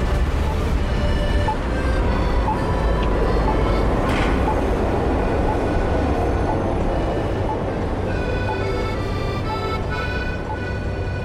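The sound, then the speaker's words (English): A tram rumbles steadily along its rails in Zagreb, a dense low rolling roar with faint metallic squeals and whines riding above it, loud throughout without pause. “Riding alone in a tram for me was an experience.”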